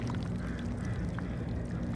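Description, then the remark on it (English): Water moves calmly through crevices among large rocks covered in barnacles and seaweed, trickling and popping over the barnacles in a dense, fizzing crackle of tiny clicks, set against a steady low rumble of the surrounding city roaring. “The tiny clicking sounds that you hear are the meeting of the water and the barnacles.”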